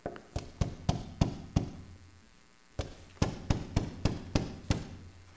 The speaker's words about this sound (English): The young man gets up off his knees, goes to his parents' home, where they're having their Christmas gathering with friends and family. With joy and anticipation in his heart, he knocks on the door.